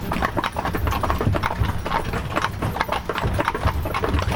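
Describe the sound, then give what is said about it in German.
Horse hooves clip-clop steadily as horses walk downhill, with a continuous low rumble underneath and no one speaking. “Im Schritt den Berg ab. Naja, da sind wir unterwegs. Also den Pferden geht's gut.”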